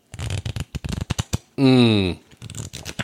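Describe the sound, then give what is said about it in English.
A deck of playing cards being shuffled, a rapid run of crisp papery riffle clicks, briefly interrupted by a sustained rising vocal sound before the flicking resumes. “I'm shuffling some cards.”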